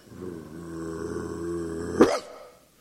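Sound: dog growling and barking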